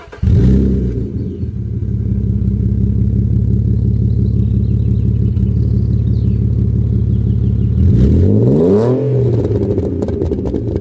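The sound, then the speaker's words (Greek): The engine of an Alfa Romeo 156, a front-wheel-drive car, idles with a loud, steady low rumble for several seconds, then revs up sharply near the end, pitch rising and falling back, with no talking. “Ένα αυτοκίνητο που έβαλε την Αλφα Ρωμαίο ξανά στο παιχνίδι. Αλφα Ρωμαίο 156.”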